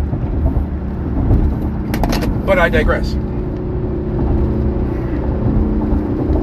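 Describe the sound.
A motorcycle carrying two people on a highway drones steadily in a low, continuous rumble, with a brief harsher roar surging midway. A person speaks a few words over it.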